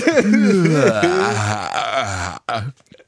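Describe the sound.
A long, drawn-out exaggerated yawn voiced loudly and close, its pitch sliding and wavering for over two seconds before a brief breathy tail and silence.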